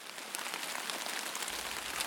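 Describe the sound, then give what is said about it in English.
A rain sound effect, not real rain: steady rain pattering down, a dense hiss of drops with scattered brighter taps, continuous throughout the short stretch, with no voices. “What you've just heard isn't real rain. It's just a sound effect.”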